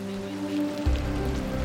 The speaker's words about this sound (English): This is what the million Rohingyas in this refugee camp are having to put up with. This is the monsoon season. This is a crisis on top of a crisis. It is raining like crazy. It's not going to stop raining.